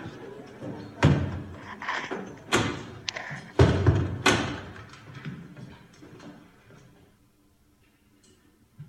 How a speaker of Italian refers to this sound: Allora chiudi le porte, il signor Wenger non vuole essere disturbato mentre parla